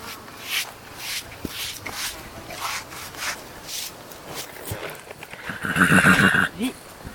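A horse lets out a loud, wavering whinny near the end, preceded by a series of soft, irregular hoof thuds and rustling in 10 hectares of scrubland, with no one talking.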